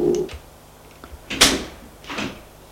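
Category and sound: household object, door opening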